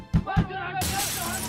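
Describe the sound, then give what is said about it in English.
Two heavy thuds land in quick succession, then a bright, sustained crash of glass shattering spreads out loudly, with a voice faintly audible underneath. “In the early morning hours of November 10, 1938, Jews experienced events of a night long remembered when in Germany and Austria they endured Kristallnacht, the night of broken glass.”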